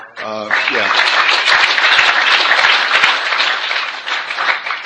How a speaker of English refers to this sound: And I certainly hope that you're applauding for Alcoholics Anonymous, because if you're applauding for me, that's the wrong thing to applaud for.